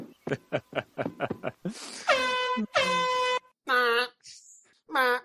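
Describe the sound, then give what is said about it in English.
A series of quick rhythmic bursts, like chuckling, gives way to four loud, blaring air horn blasts, each a steady brassy honk separated by short pauses. “Yeah, everyone needs an air horn for great events like that.”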